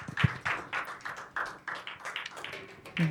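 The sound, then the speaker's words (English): A church audience claps steadily to welcome a guest chaplain speaker in the morning, the sharp claps coming in a quick, fairly even rhythm with a bright, crisp tone, holding at moderate loudness for a few seconds. “So maybe at home you can clap for Judy, and I'm sure, and those here can clap for her as we welcome Chaplain Judy this morning.”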